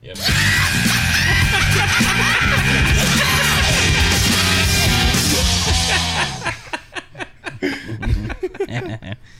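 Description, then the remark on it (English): Several loud yells, one yell mixed with a corny-joke yell, are layered on top of each other and form a dense, chaotic wall of shouting for about six seconds, then break into shorter, choppy bursts of voice. “Mix that yell with the corny joke yell.”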